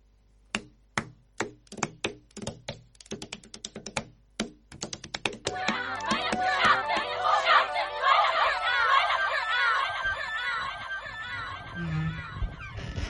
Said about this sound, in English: Well, if that didn't make you laugh when all that screaming started, I don't know what will. Oh, mama, that made me laugh so hard. Because it didn't just start, didn't it?